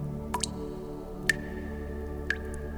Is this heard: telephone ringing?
no